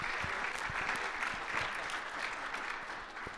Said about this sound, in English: Give them a round of applause, as we do everyone, yeah.